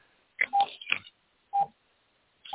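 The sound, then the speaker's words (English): Phone keypad tones beep on a group phone call as a caller presses buttons, four quick electronic presses spaced irregularly over a couple of seconds, each a steady mid-high pitched tone with a slightly muffled, lo-fi phone-line quality. “All right, somebody is pressing a button. If you all would mute your phone, please.”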